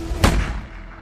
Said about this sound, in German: Ein Schuss aus der Waffe des Polizisten Karl-Heinz Kuras trifft den Studenten in den Kopf.